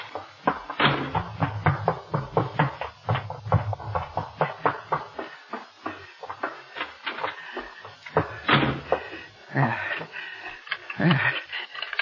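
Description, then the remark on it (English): A room door is opened amid a busy run of clattering knocks and rattles, with heavier bangs near the start and toward the end as it slams shut. “Safe in my room. Now wait, I must lock the door.”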